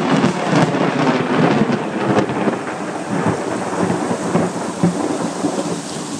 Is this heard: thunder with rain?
yes